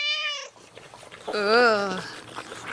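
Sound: cat meowing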